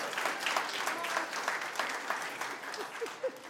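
A room full of people applauding steadily, a dense patter of many hands clapping at moderate volume, with a few scattered voices rising near the end as the clapping continues.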